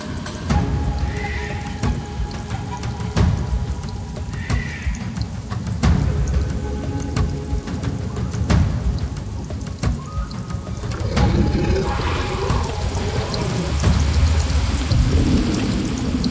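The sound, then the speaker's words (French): Steady tropical rain hisses through a dense jungle ambience, with low rumbles, a roar and occasional animal calls rising over the constant downpour; no one speaks. It is the soundscape played inside an exhibition at the Cité de l'Architecture, Palais de Chaillot, Paris. “Une ambiance de jungle, un rugissement et la pluie tropicale.”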